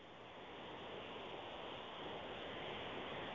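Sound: ocean waves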